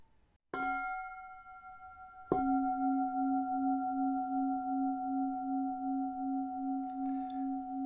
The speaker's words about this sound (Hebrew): ואני אזמין את הפעמון כדי להזכיר לנו לחזור לכאן ועכשיו, לתשומת לב מלאה. אם זה להנחיה שלי, או לתרגול עצמו, דרך העוגן שאנחה אתכם להתמקד בו. צליל הפעמון נשמע כך.